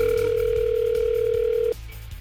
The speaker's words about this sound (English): Yeah, we are. We're making a phone call.